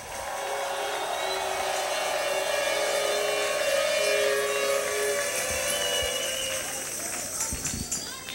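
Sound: audience applause and cheering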